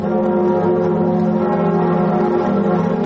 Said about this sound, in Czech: Zvuk zvona na katedrali Notre Dame u Parizu narednih godina neće se čuti, jer je vatrena stihija zahvatila crkvu u aprilu prošle godine.